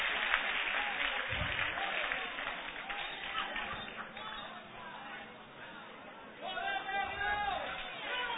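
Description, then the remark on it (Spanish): An audience claps in a steady, dense burst of applause, mixed with crowd voices and shouting; the clapping thins slightly midway, then a raised voice rises over the crowd near the end. “Dale un aplauso, puede sentarse.”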